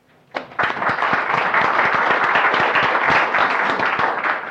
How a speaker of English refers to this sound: So I'd like to have a big round of applause for Joe Meredy, please.